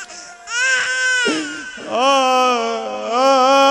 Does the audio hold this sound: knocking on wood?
no